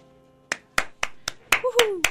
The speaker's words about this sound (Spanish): Yo aplaudo aquí en cabina. Te ayudamos, te ayudamos.